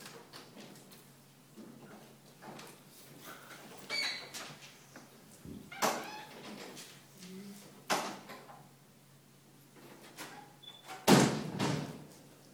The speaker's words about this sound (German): Gott sei Dank so, dass das Fenster zuzieht und nicht auf, und da hinten die Tür aufgeht. Das ist sehr praktisch.